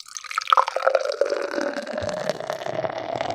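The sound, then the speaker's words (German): Beer pours from a can into a glass, a steady gurgle and splash with fizzing, foaming texture that continues without pause, no voices over it. “Also ich schütze extra mal so ein, dass ihr es schön hört, ne?”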